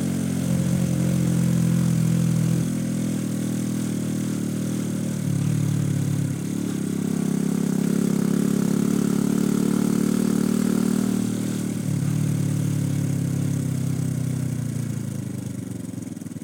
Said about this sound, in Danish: Hvorfor motorcykel? Ja, nu er der ikke nogen lyd, men motorcykellyden simpelthen, ikke? Altså, det er jo musik, det går sådan ind i kroppen, det er lydhealing.